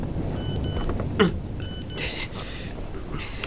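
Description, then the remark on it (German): A phone's alert for an SMS text message from Inspector Cotter plays two short bursts of bright, stacked electronic tones, separated by a brief pause, over a low background rumble with some hissing noise bursts. “Hey, das wird die SMS sein, auf die ich schon seit Stunden warte.”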